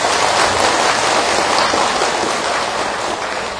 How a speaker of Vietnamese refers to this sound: Cho nên nhân dịp này thầy xin các quý Phật tử hãy dành một tràng vỗ tay thật lớn để tán dương cho những người phát tâm.